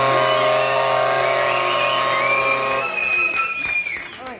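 An audience bursts into sustained applause, a dense wash of clapping mixed with cheering voices, holding steady before thinning out and fading toward the end.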